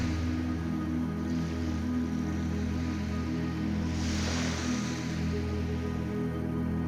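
Soft ocean waves wash onto a beach, one gentle swell rising and receding midway, all beneath a steady, low sustained musical drone; no voices.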